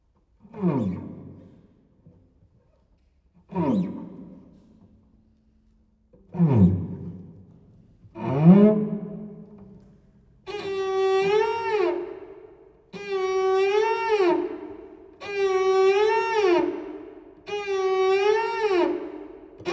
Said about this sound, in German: 64 Mating Songs of a Nightingale